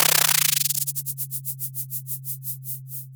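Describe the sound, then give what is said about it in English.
A synthetic data sonification of zooplankton swimming downward, from data recorded at a buoy in the North Pacific Ocean: a steady low drone under rapid, hissy clicks that gradually slow into spaced, rhythmic pulses, clear and alone without any talking. “This is what zooplankton swimming downwards sounds like.”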